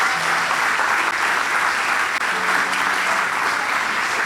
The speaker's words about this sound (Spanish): Un aplauso para los chicos, tremendo, tremendo.